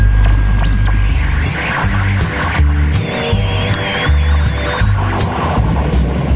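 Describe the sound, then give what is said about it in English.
A steady wash of crackling radio static over a deep, throbbing low hum that pulses irregularly, with sharp bursts of noise and a faint wavering whistle drifting through it; presented as recently discovered radio waves from a distant corner of the galaxy. “recently discovered radio waves from a distant corner of the galaxy. Let's listen in.”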